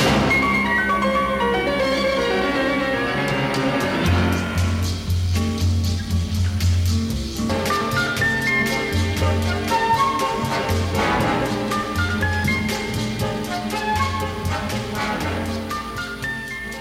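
Upbeat Latin cha-cha-cha instrumental plays throughout at steady, full volume, with a bouncing bass line, crisp percussion ticks and bright melodic horns or keys, no voices.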